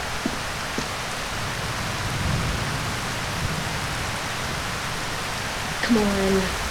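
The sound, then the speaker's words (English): Acid rain falls in a steady, dense hiss, a continuous patter that fills the whole scene without letting up, with a brief low tonal sound breaking through near the end. “we're not supposed to be around that acid rain without your suit on.”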